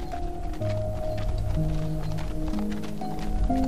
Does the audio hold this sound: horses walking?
yes